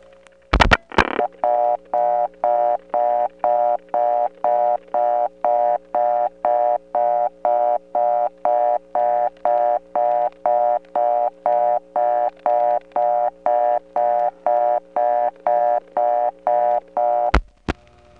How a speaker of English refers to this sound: Ironically, this trunk to Drake, being properly balanced, hums more at this point than the trunks we got last time. And that's just because the selector on the other end is using unbalanced power, so it ought to hum at this point.